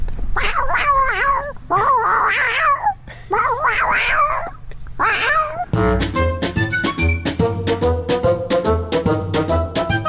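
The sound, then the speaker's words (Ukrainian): A person imitates a cat in heat with four drawn-out, wavering caterwauls, loud, each rising and falling. Then upbeat music abruptly takes over. “А как кошка кота хочет, попробуй.”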